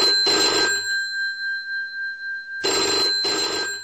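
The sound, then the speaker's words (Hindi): A telephone ringback tone sounds while a call is being placed again: two short double-pulse rings separated by a long pause, clear and steady, with no voices. “फिर से लगाते हैं।”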